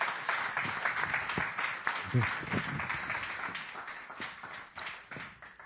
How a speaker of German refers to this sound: Ganz herzlichen Dank euch. Nochmal einen fetten Applaus.